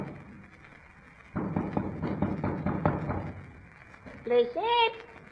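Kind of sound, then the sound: household object, knocking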